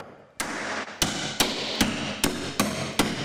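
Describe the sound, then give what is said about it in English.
A hammer strikes wooden pegs seven times in an uneven rhythm, each sharp knock followed by a brief rattle, with no one speaking; a hands-on activity in the Building Rogers exhibit at the Rogers Historical Museum. “Hammering wooden pegs is just one of several hands-on activities that make up the new Building Rogers exhibit at the Rogers Historical Museum.”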